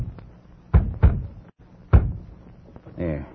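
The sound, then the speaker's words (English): Three loud, heavy knocks on the door of York's room: two in quick succession, then a third after a short pause, followed by a brief murmur of a voice. “Don't answer that. Maybe he's sleeping.”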